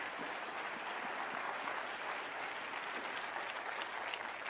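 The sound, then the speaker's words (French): An audience applauds steadily at a morning church service, a dense wash of many hands clapping at an even level throughout, with no pauses and no one speaking over it. “Est-ce qu'on peut l'applaudir avec confiance?”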